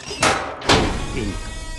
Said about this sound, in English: At the police station, an officer opens the door of Ben's cell.